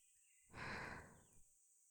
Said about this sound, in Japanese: こちらはもう大丈夫かしら？お耳の中を吐息できれいにするわね。